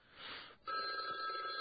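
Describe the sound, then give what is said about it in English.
A telephone rings steadily from an incoming call on the other line, its bright electronic tone starting abruptly after a brief burst of hissy noise and continuing loud with no talking. “Call on the other line, and we'll see if there's any squeak on that line.”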